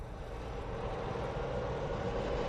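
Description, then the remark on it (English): A loud, steady roar of a plane's engines as its four motors are fired one after another, a dense mechanical drone that holds constant throughout with no voices. “As the passengers are comfortably seated, they can hear the plane motors as they are each one fired in order.”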